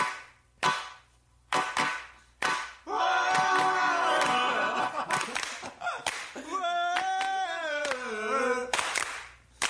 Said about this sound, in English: Hold the singing, just the hand claps. Singing was good. I like the singing.